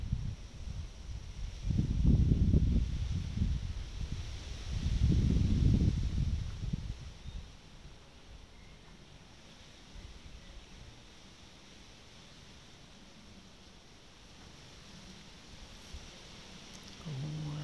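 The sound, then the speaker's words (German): Wind blows outdoors in two strong low gusts early on, then settles into a steady, soft breathy hiss with faint rustling and no voices. “Eine Weile nichts tun, als nur dem Wind zu lauschen.”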